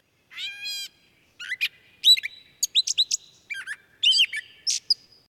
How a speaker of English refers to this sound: The catbird mimics other species, but can be recognized by the scratchy meow interspersed in its song.